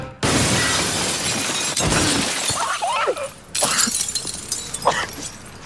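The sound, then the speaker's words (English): A loud, sustained crash of shattering glass as a man falls through it from a couple of stories high, with bright, crackling debris continuing to break and tinkle over several seconds, followed by a second burst of breaking glass and scattered shards. “There's one scene where he falls through glass.”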